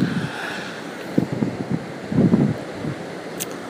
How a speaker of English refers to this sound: So I don't know how it's going to sound. I just hope that it's okay enough to where you can hear my voice and the rolling waves and the ocean breeze doesn't mess things up too poorly.